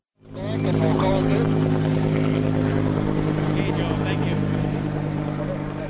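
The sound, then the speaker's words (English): A Temsco helicopter roars overhead, airlifting water from Ward Lake to a wildfire-burnt hillside behind the Alaska State Troopers Post in Ketchikan, Alaska; its loud, steady rotor drone with a deep throbbing hum fills the whole stretch after a quick rise from silence. “As a Temsco helicopter crew airlifted water from Ward Lake to the burnt hillside, fire crews hosed down hot spots and surveyed the area.”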